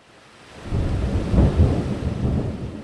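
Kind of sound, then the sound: nature, thunder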